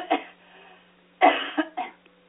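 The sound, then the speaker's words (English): Someone clears their throat in a few short, harsh bursts: one, then a pause, then a quick cluster of three, with no talking. “Why don't you tell a little bit more to my audience while I clear my throat?”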